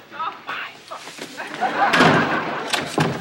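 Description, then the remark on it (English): A door slams shut partway through with a sharp, loud bang that rings out briefly, followed by a second softer knock, while people talk before and after. “Lock this door.”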